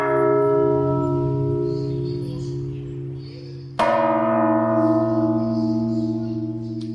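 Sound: church bell ringing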